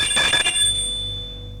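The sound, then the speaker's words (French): A woman rings a doorbell once: a short, buzzy metallic burst followed by a bright, high-pitched tone that lingers and slowly fades. No one speaks. “Elle sonne à la porte.”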